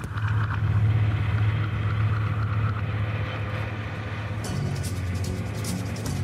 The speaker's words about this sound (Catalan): És un tren, això? Sí.